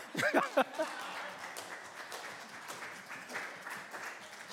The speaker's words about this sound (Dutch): oh, geef de Heer een applaus